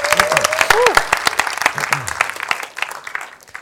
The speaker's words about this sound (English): could you give her a big round of applause?